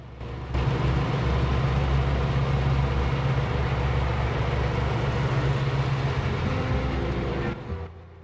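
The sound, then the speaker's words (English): A John Deere riding lawn mower engine putters steadily and loudly down a wide town street lined with buildings, a continuous low rumble with a rough, chugging texture that holds for several seconds before cutting off near the end. “In town, the John Deere putters noisily down a wide street with buildings on either side.”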